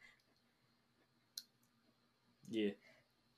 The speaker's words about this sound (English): Gesundheit.